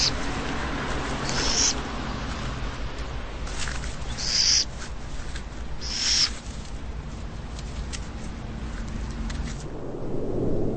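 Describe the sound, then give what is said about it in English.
An owl living in a city calls three times, short high-pitched cries spaced a couple of seconds apart, over a steady low rumble of background noise with no voices. “But so long as the city can still provide food and shelter, these owls will remain a part of the urban landscape.”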